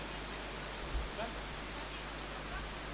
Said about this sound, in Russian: Ну, пишите, потому что я не слышу ваши ответы, шумит дождь.